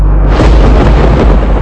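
A deep, loud rumble of thunder rolls continuously, with heavy low-end booming and crackling texture throughout, powerful with no voices.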